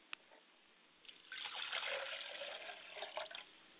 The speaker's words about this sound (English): I pour a glass of water for my father's spirit, and I like to say Ashe.